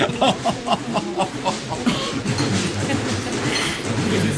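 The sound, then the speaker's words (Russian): A steady low rumble of a moving train's dining car fills the background, with a brief run of rhythmic clicks early on and faint voices murmuring under the noise. “Ожидая за угловым столиком вагона ресторана, когда официант в синем фраке и в перчатом воротничке принесет поднос с едой, Никита Алексеевич Обозов чувствовал себя покойно и радостно.”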